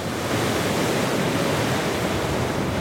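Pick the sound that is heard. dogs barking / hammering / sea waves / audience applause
sea waves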